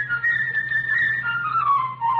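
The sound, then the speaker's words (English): A flute plays the bird's theme in a musical tale told by instruments: a bright, high, trilling melody that wavers and slowly drifts lower in pitch, with a steady low hum underneath and no voices. “The bird will be played by a flute.”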